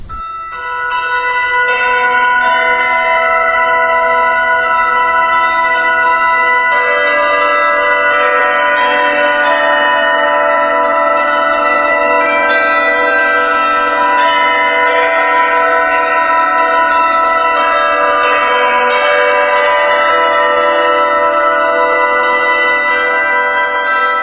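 Church bells ring continuously and loudly, their rich overlapping tones blending into a sustained, shimmering peal that carries on without pause, with no voices present.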